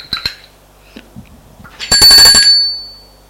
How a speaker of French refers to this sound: Une sonnette a retenti. La bonne dit : c'est madame qui veut son petit déjeuner.